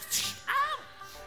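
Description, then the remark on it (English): A quick whip crack sound effect in a blues song, a sharp hissing snap followed by a short ringing, swooping tone, heard once on its own at moderate volume. “There's the whip sound, except there it is again.”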